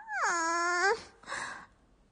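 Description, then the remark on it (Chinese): A person imitates a dog barking with one drawn-out, whiny woof that rises and holds for about a second. A shorter, breathy follow-up sound comes after it, fairly loud. “为什么要我学狗叫呀？”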